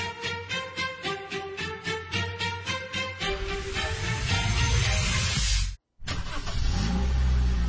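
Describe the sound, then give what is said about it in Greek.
A car engine throbs in a steady pulsing rhythm, then surges into a loud, full roar as it revs, cuts out for a split second, and roars on again. No one speaks. “Το αυτοκίνητό σας. SUV, σπορ, οικογενειακό.”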